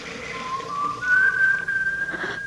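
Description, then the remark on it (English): A kettle whistles with a thin, steady tone that steps up to a higher, louder pitch about halfway through and holds there, shrill and unbroken, with no one speaking. “Lucky I left the kettle out.”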